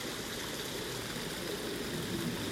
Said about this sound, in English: The water finds its way through the cracks, through the open spaces, and the current flows.